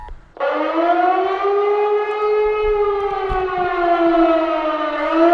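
A loud civil defense siren sounds during a test warning around 11 a.m., heard from beneath a lamppost. It starts abruptly and holds a steady, rich harmonic wail, sustained without pause for several seconds, with faint background rumble beneath.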